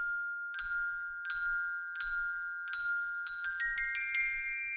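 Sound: glockenspiel being played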